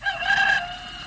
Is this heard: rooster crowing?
yes